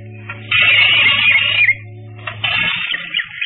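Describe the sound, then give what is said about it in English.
A screen door creaks open in two long, scraping squeals with a rasping high-pitched screech over a low steady hum, the second squeal starting after a short pause. No one speaks. “He was trying to get hold of whatever it was when he heard the screen door open.”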